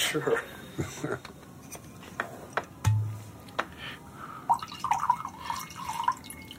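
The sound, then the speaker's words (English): Wine trickles and drips into a glass, with scattered light taps and clinks and a brief bright ringing near the end, over a faint background murmur. “Would you like to pour out some wine for your elderly lover?”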